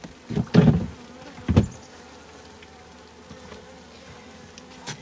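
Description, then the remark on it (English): Honey bees buzz steadily around an open hive as a beekeeper pulls frames and moves the bees down into the honey super box, a soft continuous drone punctuated by a few louder bursts, with occasional light clunks of wood being handled. “I'm requesting that these bees please go down into the honey super box so that you can survive.”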